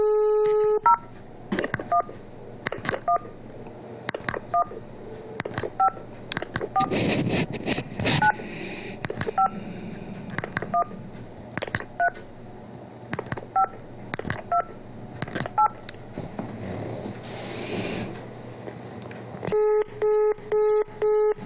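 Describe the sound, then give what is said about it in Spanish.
Touch-tone keypad beeps dialing a long series of digits on a telephone line that does not work, in a steady, irregular rhythm, with clicks and handling noise between them, bracketed by repeating tone patterns at the start and end. “Vamos al otro teléfono que no funciona.”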